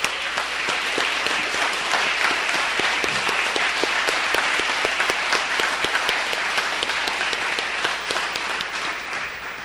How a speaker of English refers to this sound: A big round of applause for Todd.